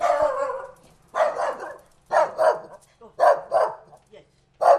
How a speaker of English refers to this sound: I'll just knock on the door and the dog will go crazy.